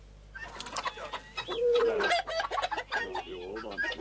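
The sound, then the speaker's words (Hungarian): Hens cluck busily in Kaposvár, Hungary, several birds trading short, choppy calls in quick succession with a few rising squawks, filling the few seconds without any talking. “Guinness rekord közeli óriás tojást tojt egy tyúk Kaposváron.”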